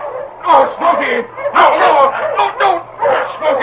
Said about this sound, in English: King heard, too, the cries of the frenzied dog team